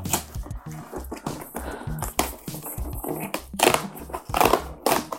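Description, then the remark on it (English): A cardboard box marked 'fragile, handle with care' and holding two long-stemmed wine glasses is opened with a series of irregular scraping, tearing and crinkling bursts, some sharp and loud, others softer rustles in between, with no talking. “It's this fragile handle with care. Should I open it?”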